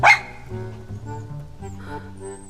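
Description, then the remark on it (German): A small light-brown dog sitting on its hind legs two steps away lets out one sharp bark, followed by a few seconds of softer, drawn-out whining and yipping sounds, with no one talking. “Zwei Schritte von ihr entfernt sitzt ein putziger hellbrauner Hund auf den Hinterbeinen und hält die Vorderpfoten vor der Brust gekreuzt.”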